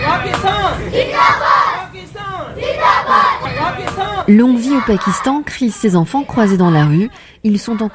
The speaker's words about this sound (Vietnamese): Pakistan muôn năm, bọn trẻ hét vang khi gặp nhau trên đường phố. Chúng được người lớn xung quanh cổ vũ. Đây là một cảnh tượng thường thấy trong những ngày qua ở đất nước này.